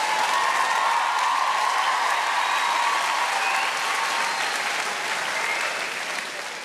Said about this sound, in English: All those women clapping, they meant yours.